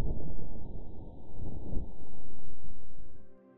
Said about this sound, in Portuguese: A InSight também podia detectar mudanças na pressão do ar. Aqui está a pressão do ar mudando à medida que o vento soprava no módulo de pouso. Este áudio foi acelerado por um fator de 100 para estar dentro do alcance da audição humana.